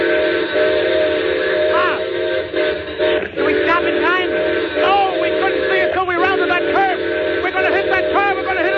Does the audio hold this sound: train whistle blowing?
yes